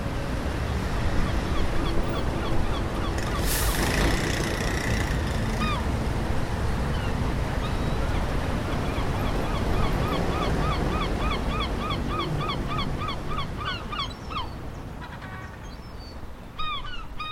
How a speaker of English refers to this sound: There are always seagulls in the city. Why do they fly so far from the water?